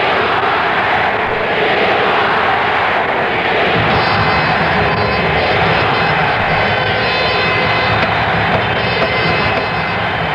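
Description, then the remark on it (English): A loud, steady roar of applause and shouting from convention delegations from New York, New Hampshire, Pennsylvania and Vermont fills the whole stretch, with thin high whistles joining partway through and no clear voice standing out. “The applause and the shouting are coming from the delegations from New York, New Hampshire, Pennsylvania, Vermont.”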